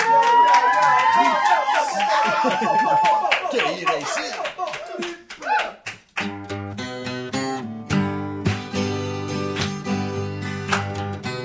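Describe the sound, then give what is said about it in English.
A crowd claps and cheers loudly for several seconds, a dense wash of hands over whoops and chatter, before settling into steady rhythmic clapping alongside sustained musical tones. “Okay, clappers, noise.”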